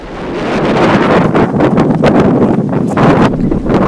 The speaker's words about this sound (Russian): Проходя дальше по полосе, на нас дул сильный ветер.